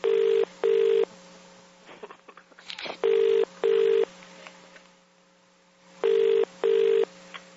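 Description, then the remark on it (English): A telephone ring tone sounds in three evenly spaced double bursts, clear and steady over a faint line hum, with a few brief clicks and dialing-like blips in the gap between. “All circuits are busy.”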